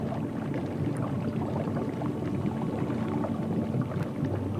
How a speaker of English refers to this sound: Dreamy chords underneath the bubbles.